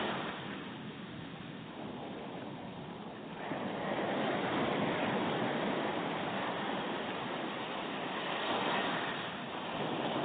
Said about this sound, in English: Let the sounds of the sea relax you.